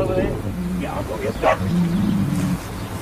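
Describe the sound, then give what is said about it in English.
A dog named Mitch barks a couple of times in short, sharp bursts over a steady low rumbling growl-like drone that runs through the whole moment. “Yeah, good dog. You two make quiet now.”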